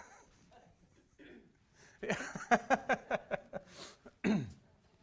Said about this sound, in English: Anybody else? All throats clear now?